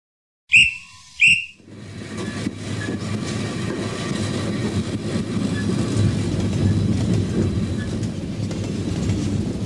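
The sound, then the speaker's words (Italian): Two short, sharp whistle blasts sound, then a train starts moving with a low, steadily building rumble and rattle that swells and continues to the end. “Mentre il treno si mette in movimento”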